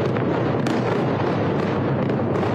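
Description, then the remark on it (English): A loud, continuous rumbling roar of large explosions near Beirut's airport in Lebanon, with a couple of sharper blasts cracking through the dense boom. No voices are heard. “Huge explosions have been seen and heard near Beirut's airport after a civilian aircraft landed.”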